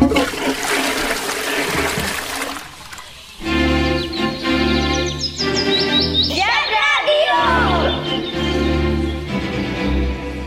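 A loud flush of a water-flush toilet (WC): a burst of rushing water for a few seconds, then a steady droning whine with gliding, whistling pitches as the water keeps running.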